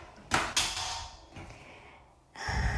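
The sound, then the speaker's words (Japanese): A door being closed: a couple of sharp knocks and bumps from the handle and frame, a softer thud, then a louder rustling bump as it settles shut. No one speaks. “ちょっとドアを閉めます。”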